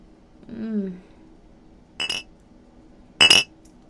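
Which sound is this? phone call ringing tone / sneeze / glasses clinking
glasses clinking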